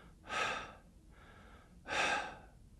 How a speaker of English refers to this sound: And I looked over thinking, is there something wrong? And I thought, no, he's just sitting there breathing normally. But it wasn't normal breathing. It was labored breathing.